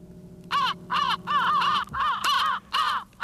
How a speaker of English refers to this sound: There's a needle drop. Because those crows are coming from, these are old hunting records.